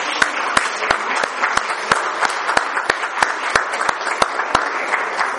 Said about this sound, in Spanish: Así que por favor, los demás, les damos un aplauso a los matrimonios.